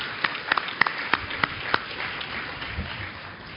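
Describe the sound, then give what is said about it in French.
Scattered audience applause at a Silver Valley club event: about seven sharp, separate claps in an uneven rhythm over low background noise, dying away after the first two seconds. “On peut les applaudir et puis je vous invite à reprendre vos places.”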